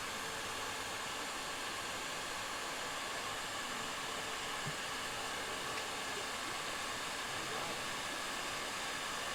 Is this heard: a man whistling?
no